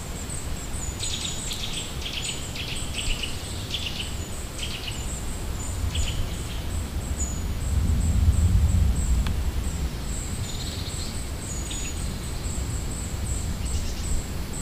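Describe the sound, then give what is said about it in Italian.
Several wild birds in tree branches, including a robin and a magpie, sing and chirp in scattered bursts over a steady high-pitched trill, with the low rumble of a passing airplane swelling briefly partway through. No one speaks. “Le melodie si incastrano tra di loro creando una traccia in cui ogni uccello mette a disposizione il proprio canto.”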